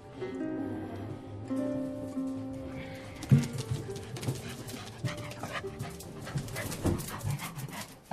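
A small poodle pants in quick, rhythmic breaths over a person's head, with a few soft whimpering tones near the start and no voices.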